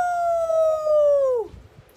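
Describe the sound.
A person imitates a Sasquatch yell: one long, loud, sustained howling cry that holds a steady pitch for over a second, then slides downward and cuts off abruptly.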